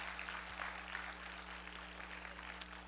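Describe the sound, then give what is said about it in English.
An audience at an evening church service claps for two preachers for about three seconds, a dense, even patter of many hands at a fairly soft level, with a faint low hum beneath and no voices. “But anyway, let's give them both a big hand clap tonight.”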